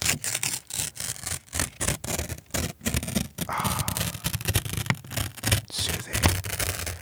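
Paper being ripped up, a series of crisp, scratchy tearing bursts separated by brief pauses, continuing steadily for several seconds with no talking.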